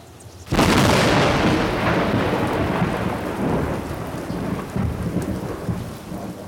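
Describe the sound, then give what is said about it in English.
A sudden loud crack of thunder bursts in, then rolls and rumbles on for several seconds over a steady wash of heavy rain, with no voices. “I said, sure looks like it's gonna rain.”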